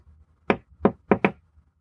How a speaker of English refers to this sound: I was on my third, fourth glass and cursing decisions made in my childhood when I heard the knock on my door. It wasn't my secretary's, I knew that. She left 3 hours ago and she'd never knocked that loud or certain in her life.